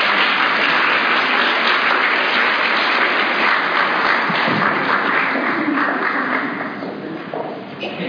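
A crowd applauds steadily for several seconds, a dense, even wash of many hands clapping, easing slightly in loudness toward the end, as an audience welcomes a guest.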